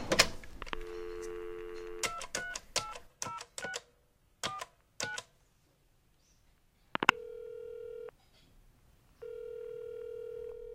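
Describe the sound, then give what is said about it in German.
A quick run of telephone keypad tones is dialed, followed by two long, steady electronic ringing tones separated by a pause, with no one speaking. “Michael telefoniert mit Uta.”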